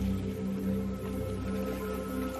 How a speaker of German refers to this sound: Oder das Wasser plätschern?